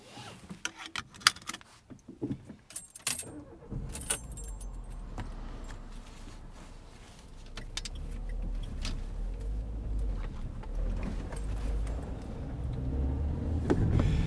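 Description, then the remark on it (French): Keys jangle and clatter for a few seconds, then a car engine starts and settles into a steady low rumble that builds gently as the car pulls away and drives toward Arlon, the driver holding a microphone in hand. “En tout cas, c'est très difficile de conduire avec ce micro en main, mais c'est un peu dangereux d'ailleurs.”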